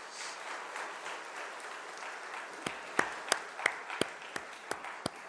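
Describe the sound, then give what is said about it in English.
A crowd applauds the mothers, grandmothers and great-grandmothers standing to be recognized, in a soft, diffuse wash, then a few sharp claps ring out in a steady rhythm over the fading applause of the gathered group. “Let's give a round of applause for all of our mothers here.”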